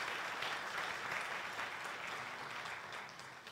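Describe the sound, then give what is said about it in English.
An audience applauds in support of the law enforcement officers who are present, a steady, dense wash of many hands clapping at an even loudness that eases off only slightly at the end. No one speaks over it. “Let's give them a hand.”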